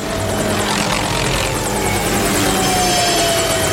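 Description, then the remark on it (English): A helicopter roars steadily in a scene with Gadget and Claw, its rotor blades thumping in a fast, even rhythm over a loud engine whine, with no voices. “The helicopter lurches and they slide off in free fall.”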